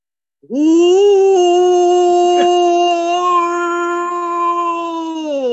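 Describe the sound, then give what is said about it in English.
A person imitates a wolf howl, one long sustained wavering tone that rises at the start and holds steady for several seconds, loud with no other sounds. “Doug, you want me to do my wolf? Let me see if I can do it.”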